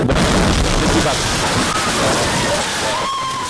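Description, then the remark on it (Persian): A loud, sustained roar of an explosion behind the gate of the National Council, accompanied by an armed clash, dense and chaotic, with faint sharp cracks like gunfire and muffled voices buried underneath. “لحظه انفجار امروز در عقب دروازه شورای ملی، این انفجار با درگیری مسلحانه همراه بود.”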